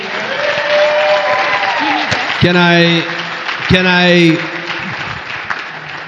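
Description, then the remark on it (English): An audience applauds Sherry Perry steadily and loudly for several seconds, with two bursts of loud whooping cheers cutting through the clapping near the middle. “Another big hand clap for Sherry Perry.”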